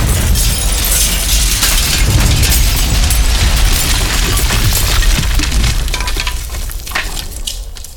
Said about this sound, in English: Somehow, I got blowed out by the explosion. That hurt. Ow.